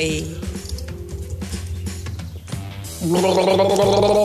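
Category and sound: human body sound, gargling water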